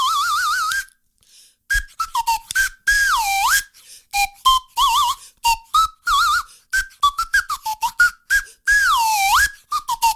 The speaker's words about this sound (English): Now, this is a wooden whistle. Now, that sounded okay, but this wooden whistle is a special whistle because it's got a slide on it.